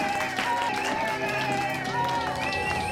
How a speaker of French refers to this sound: À l'annonce du verdict, la salle applaudit. Fort, très fort.